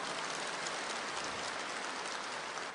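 A dense, steady wash of crowd applause, many hands clapping at once without a clear rhythm, holding at an even level for a few seconds with no voices.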